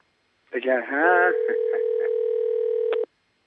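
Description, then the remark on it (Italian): A brief voice gives way to the steady, unbroken ringing tone of a call to a foreign number, humming for about two seconds at an even level, then cutting off abruptly with a faint click. “Che squilla estero.”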